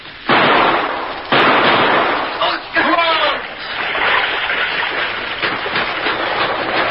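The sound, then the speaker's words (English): Two loud, sharp gunshots ring out about a second apart in a cave, fired by men at a man trying to escape through an underground river, each trailing into a noisy wash, followed by brief shouting and a steady rushing background. “He's trying to get out of the river! Shoot!”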